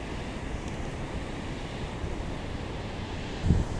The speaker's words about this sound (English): What you hear in the background is a waterfall here in Beacon, New York, on a most beautiful, beautiful March day, 70 degree day, 2012. Actually, I think it's March 12, 2012.